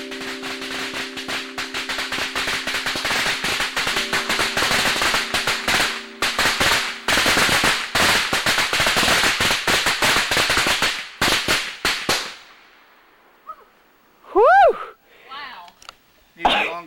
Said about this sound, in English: He would reenact the 4th of July firework rigging.